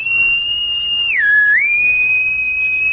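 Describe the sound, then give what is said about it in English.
A sustained human whistle holds a steady pitch, dips briefly in the middle, then returns to the same tone, clear with no talking. “Why do you whistle that way?”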